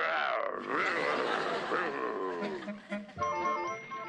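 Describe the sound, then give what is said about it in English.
The cartoon character Fred Flintstone growls loudly and continuously for about four seconds, a rough, grumbling voice whose pitch rises and falls unevenly, with no words spoken. “All he does is growl.”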